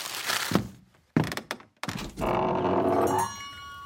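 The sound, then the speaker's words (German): A handful of dull, hollow Prellball ball thuds land at uneven intervals, then give way to a steady rushing hiss that turns into the thin, high whistle of a tea kettle. “Hier habt ihr eine Tüte Prellballgeräusche.”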